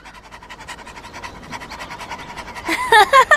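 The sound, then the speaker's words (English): A dog, Scamp, pants quickly and steadily, a fast rhythmic string of breathy huffs, finishing with a few louder, sharper vocal bursts. “Then a dog finds them.”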